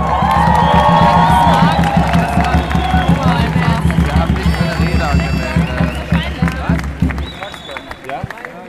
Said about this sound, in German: Einmal Applaus für Sie.